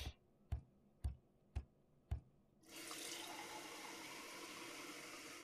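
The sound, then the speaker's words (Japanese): Five sharp, evenly spaced clicks about half a second apart, then a tap turns on and water runs in a steady, hissing rush until the end while someone brushes their teeth, with no voices. “その前に歯磨き、歯磨き。”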